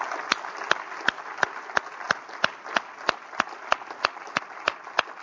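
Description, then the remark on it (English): An audience applauds as a clap offering to the Lord at a morning church service, a dense wash of clapping with sharp claps landing in a steady, even rhythm, roughly three per second, sustained throughout at moderate loudness. “Can you give the Lord a good clap offering this morning, would you?”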